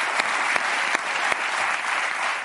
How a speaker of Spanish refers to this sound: Un aplauso para Jorge Ponce. Gracias, Jorge.